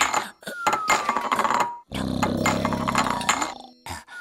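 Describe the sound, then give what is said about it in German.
Pots and pans clang together as Miwau strikes pot against pot with a paw, a busy, irregular clatter of metallic knocks with ringing tones, pausing briefly before another burst of banging and a final short clank. “Miwau schlägt Topf an Topf, bis ihr einer aus dem Pfötchen fällt.”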